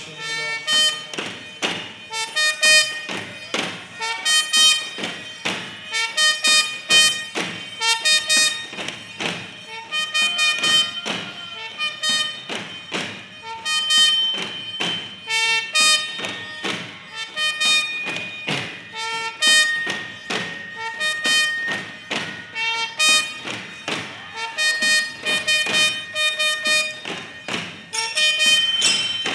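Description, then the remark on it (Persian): A loud, blaring horn sounds continuously over steady, heavy drum thumps that beat in a repeating rhythm for the whole stretch, with no voices. “شیپور جنگ به صدا در اومد، بچه های عبی عبدالله تن و بدنشون میلرزه.”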